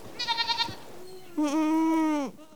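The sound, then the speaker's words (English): Goats bleat on a rocky slope near Spokane, Washington, on a late July morning while eating snowberry bushes, hawthorn and Oregon grape: first a short, quavering, trembling call, then after a pause a louder, drawn-out bleat that holds steady for almost a second before breaking off. No talking. “On a late July morning on a rocky slope near Spokane, Washington, Craig Madsen is watching his goats attack snowberry bushes, hawthorn, and Oregon grape.”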